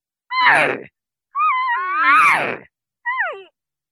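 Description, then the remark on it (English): A person imitates the estrus call that cow elk make when in heat, with three loud, nasal, mewing cries: a short falling one, a long wavering whine, then a brief downward squeal, with no talking. “I can also do an estrus call, which is when the cow elk are in heat.”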